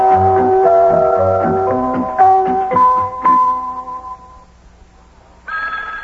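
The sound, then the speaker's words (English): A melodic tune plays, then near the end a loud, buzzy telephone ring cuts in abruptly, a single bright burst, in the living room of a house in Cincinnati, Ohio. “There's the telephone again. Hey, the telephone's ringing.”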